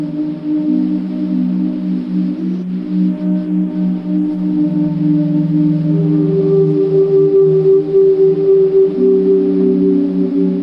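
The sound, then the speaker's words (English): A tape recording of out-of-tune whistling in a stairwell, slowed down at 7.5 inches per second, becomes deep, sustained overlapping tones, like an eerie choir, holding steady chords that shift pitch every few seconds. It stays loud throughout, with no voices, computer effects or artificial reverb. “And suddenly, you know, instead of my sort of really out of tune whistling, you get this kind of ethereal choir sound just from that one recording of whistling in a stairwell.”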